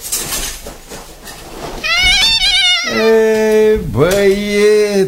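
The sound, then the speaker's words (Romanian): A horse whinnies loudly, a long, high, wavering neigh that drops in pitch over a few seconds, following a brief stretch of faint rustling noise. “Așa, acum acum să văd ce-mi face calul.”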